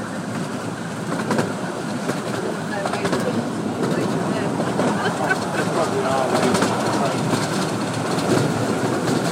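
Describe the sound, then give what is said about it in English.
A train rolls steadily along the rails, a continuous broad rumble punctuated by irregular metallic clacks and rattles that hold an even loudness throughout. “I think we're coming into a station, so I'm hoping he's going to blow his whistle soon.”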